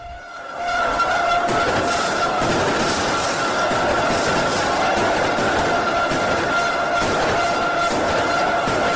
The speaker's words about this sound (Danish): Det er romerlys, du hører her. Og bilhorn.